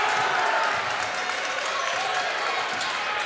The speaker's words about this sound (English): fell down and got the crowd kind of excited.